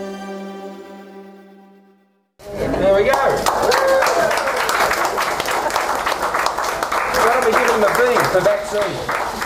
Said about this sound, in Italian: Applausi e pacche sulle spalle durante la vaccinazione di una donna 84enne,